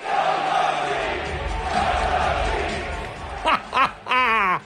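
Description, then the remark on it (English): A dense, roaring arena crowd at a Knicks basketball game on a Wednesday night, with owner James Dolan in the stands, swells steadily, then breaks into a loud rhythmic chant of "sell the team", three shouted syllables, the last one drawn out and wavering in pitch. “They're yelling, sell the team.”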